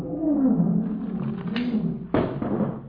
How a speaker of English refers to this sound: Professor, there's a lion in that room?